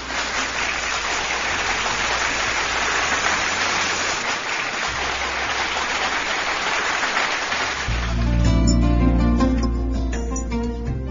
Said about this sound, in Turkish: Yüreğine, gönlüne, kalemine sağlık can ablam. Kocaman bir alkış.